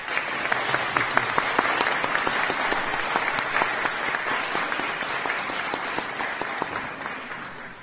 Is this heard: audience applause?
yes